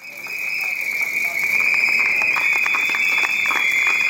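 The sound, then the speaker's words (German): A shrill, sustained whistle shrieks loudly over a dense crowd roar, with scattered shouts and bursts of noise, from a street protest during a trade union strike. “Ja, so in etwa klang das bisher meistens, wenn Gewerkschaften gestreikt haben.”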